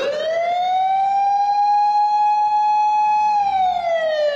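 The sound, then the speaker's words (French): Distant emergency sirens, heard from the foot of a subway station in Japan, wail in one long sustained tone, rising at the start, holding steady, then dipping toward the end. It is loud and continuous, with no voices. “Les sirènes retentissent au loin, mais aucune ne se dirige vers eux.”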